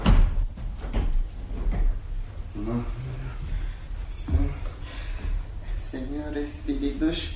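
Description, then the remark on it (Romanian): A door swings open with knocks and drawn-out creaking over several seconds, while indistinct voices murmur in the background. “Se deschide ușa.”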